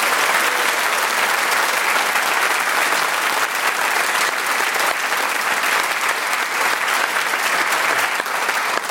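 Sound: audience applause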